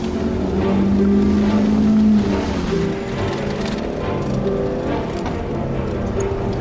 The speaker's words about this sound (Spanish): El auto rojo acelera y se coloca junto a su vehículo.